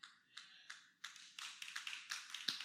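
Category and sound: human body sound, a single hand clap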